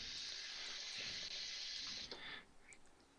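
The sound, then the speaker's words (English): Cold water runs steadily from a tap into a pot of pasta to cool it and stop the cooking, a bright hissing stream that splashes and shifts before cutting off near the end, leaving a few drips. “I'm going to put some cold water in here, and then we'll again, the cold water will help cool the pasta.”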